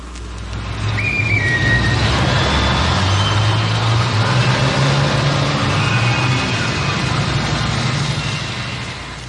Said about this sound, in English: There are a number of situations where even a person with normal hearing has difficulty in understanding speech. Restaurant noises, for example. Or heavy traffic noise.